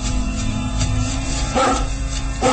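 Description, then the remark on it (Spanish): An enormous mastiff named Lucifer lets out two deep, booming barks about a second apart outside a castle as night is just beginning, heard over a steady low rumble with no one speaking. “Al mismo tiempo, el barón de Tífano y su criado, el gitano Sarco, han salido del castillo intrigados por los ladridos del enorme mastín.”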